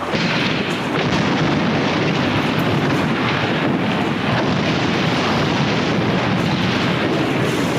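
A demolition blast brings down a chimney and a house, a heavy sustained rumbling roar of collapsing debris that stays loud and dense throughout, with no voices.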